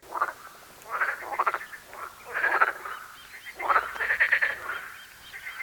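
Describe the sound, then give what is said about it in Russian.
Several frogs croak together in overlapping, raspy bursts that swell and fade in uneven waves, fairly loud, with no voices. “Лягушки дружно заквакали.”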